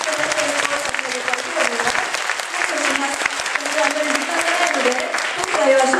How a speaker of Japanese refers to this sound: 皆様、本当に神様に栄光を差し上げたいと思います。拍手で大きな声で。